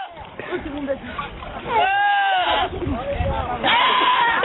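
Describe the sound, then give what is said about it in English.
A goat lets out two loud, wavering, human-like screams that sound like it is saying "Ed", one in the middle and another at the end, with people talking in the background before and between them. “The other goat screaming.”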